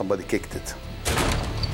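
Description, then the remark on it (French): Brief voice sounds, then an individual kicks in the cockpit door with a sudden loud crash about halfway through, followed by a sustained rattling, noisy clatter. “Mais avant que j'aie le temps de comprendre, un individu a enfoncé la porte du cockpit d'un coup de pied.”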